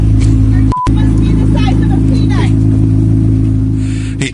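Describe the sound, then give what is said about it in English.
A Corvette Z06 sports car engine, just started, rumbles loudly and steadily, a deep, continuous drone that cuts out for an instant, with faint muffled voices underneath. “He started his car, and the as you heard, the hum of the Corvette Z06, the roar of that Z06 engine.”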